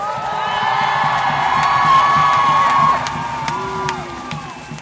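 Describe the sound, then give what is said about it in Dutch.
A large crowd at a rally roars with sustained shouting and cheering, many overlapping voices rising to a loud peak midway before tapering slightly, with scattered whoops and yells piercing the dense wall of noise. “Ik wil jullie horen, niet zacht, niet beleefd. Ik wil dat de wereld hoort.”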